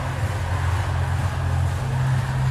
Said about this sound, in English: fans were absolutely delighted to have her over in Brazil. This is what 2.1 million people sound like.